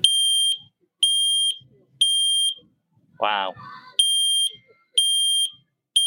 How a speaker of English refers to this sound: it just literally takes a couple of seconds to test your smoke alarm